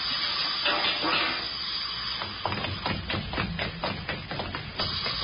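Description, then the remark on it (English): A steady, loud hiss of gas forming in a chemical reaction inside a lamp chimney runs throughout, joined about halfway by a scatter of irregular clicks and light knocks. “The gas is forming.”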